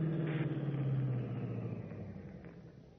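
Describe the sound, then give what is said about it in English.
An approaching car's engine hums and rumbles, a steady low drone with a faint tonal whine that loudens briefly, then slowly softens over a few seconds. No one speaks. “Then, suddenly, over the deadly, piercing tone of Stark's voice, Batman is conscious of another sound, an approaching car.”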